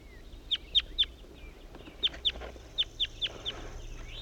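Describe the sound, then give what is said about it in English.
A wild male bird sings a run of short, sharp, high-pitched notes, delivered in quick bursts of two or three with brief pauses between. The calls stand out clearly, and no one speaks. “wild male bird that was just singing.”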